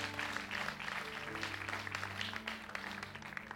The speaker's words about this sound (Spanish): Alguien dele un aplauso y dele la gloria a Dios. Y va a aplaudir. Aplauda fuerte, aplauda fuerte, aplauda fuerte.